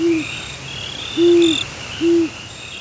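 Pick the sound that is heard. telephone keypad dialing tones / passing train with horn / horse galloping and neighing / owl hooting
owl hooting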